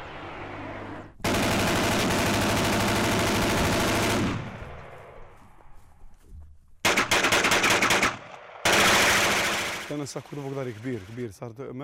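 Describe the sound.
Loud, sustained bursts of automatic gunfire in a shootout during an evening ambush rattle in long volleys separated by brief pauses, with shouting voices breaking in as the final burst fades.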